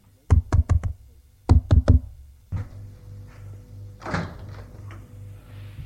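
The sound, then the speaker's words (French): Two quick sets of four sharp knocks rap loudly on a glass door, followed by the door opening with a latch clatter and some low rustling. “Il voit une porte vitrée, frappe.”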